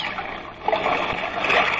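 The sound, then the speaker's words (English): A heavy splash as a person falls overboard into water, followed by continuous churning and sloshing for a couple of seconds with no voices. “Man overboard! Man overboard! What am I yelling for? It's me.”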